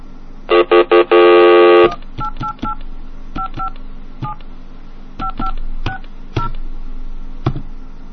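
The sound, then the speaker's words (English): Telephone keypad tones while trying out a Navy phone card: a quick run of loud dual-tone beeps and a longer held tone, then a slower series of shorter key beeps with faint clicks, with no talking. “Now I want to try the phone card that Condor gave us.”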